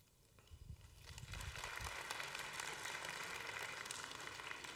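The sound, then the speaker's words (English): A church audience bursts into applause during a sermon, clapping for radical generosity, the clapping swelling within the first second or two into a dense, steady crackle of many hands that continues to the end. “I wanted you to clap for radical generosity, okay?”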